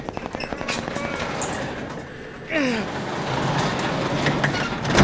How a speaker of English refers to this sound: We have to lift this garage door together. There's too much snow here, okay? 3, 2, 1, lift.